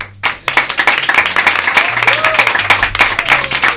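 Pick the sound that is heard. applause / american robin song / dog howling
applause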